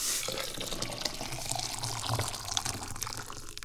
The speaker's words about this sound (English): Speaking of water, here's some other water over here. It is boiling. I will turn it off. The heat thing. The heat thing that's underneath. What's that called? Oh yeah, fire. I turned off the fire. We pour the water into the teacup.